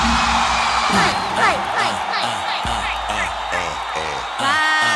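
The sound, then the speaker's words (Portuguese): A loud crowd shouts and whoops together, voices rising and falling in overlapping cries, steady over a dense noisy backdrop for the whole stretch. “Quem é porque ele é safada, dá um grito.”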